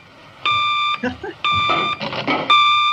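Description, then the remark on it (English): The back phone rings with an electronic, buzzy tone in three steady half-second bursts, evenly spaced, while people talk between and over the rings. “It's the back phone.”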